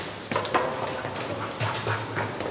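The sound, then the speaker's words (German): A dog whimpers and yips in short bursts as it climbs stairs ahead of its handler in a prison, amid busy, echoing background noise, with a few brief thuds like footsteps; no one speaks. “voran mit seinem Hundeführer”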